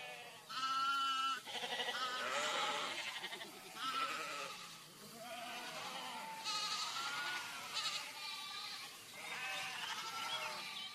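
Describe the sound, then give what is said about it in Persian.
A flock of sheep and goats bleating continuously, many overlapping wavering cries, loud and layered with no pauses, no talking over them. “صدای یک گله گوسفند بود.”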